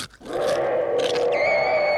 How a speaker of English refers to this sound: Even the sound of a tsetse fly picking its nose magnified only 75,000 times frightens the ant.